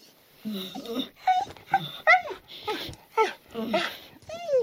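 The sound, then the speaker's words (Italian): A human voice imitates a dog's excited whimpering as it leaps onto its owner and licks his face: a quick run of high, wavering whines and yelps in short bursts, fairly loud, with brief gaps between them. “si lanciò sul padrone, leccandogli ogni centimetro del viso e esternando una sequela di versi concitati.”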